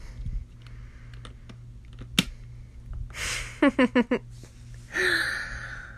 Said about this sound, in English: And clasp it to the top. Just like that. And now I'm going to put the lock around it. In through the hole.